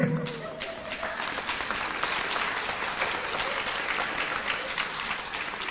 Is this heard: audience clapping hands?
yes